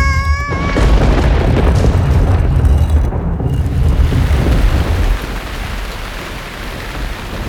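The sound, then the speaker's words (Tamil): Heavy rain pours down steadily, a dense, loud roar with a deep rumbling undertone like thunder. It fades slightly after a few seconds, with no voices. “நாற்பது நாட்கள் இரவும் பகலும் பெருமழை எங்கும் பெய்தது, உயிரினமெல்லாம் அழிந்தது.”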